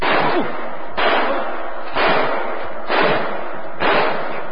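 Five loud gunshots fire at a steady pace, about one per second, each a sharp crack followed by a rough, noisy decay. No one speaks.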